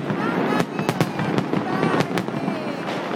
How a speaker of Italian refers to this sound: È il 31 dicembre del 2015 a Roma, è Capodanno. Al Colosseo ci sono i fuochi d'artificio.